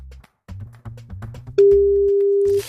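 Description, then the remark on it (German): A telephone ringing tone sounds over the handset on a live radio call to a mobile phone from an anonymous number: a steady, fairly loud electronic beep holds for about a second after some low rumbling and clicks, with no one picking up. “Machen wir noch einmal klingeln?”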